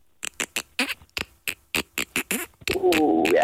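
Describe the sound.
A person mimics a dolphin with a quick series of sharp clicks and chirpy squeaks, ending in a sustained, wavering high squeal, fairly loud with no talking.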